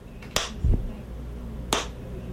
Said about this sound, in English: So when I get there, you can see clap, clap, clap, right? So if I play it, this is what it sounds like. Oh, if my audio is, there we go. Need my audio. Thank you. So we're going to clap. We're going to play this.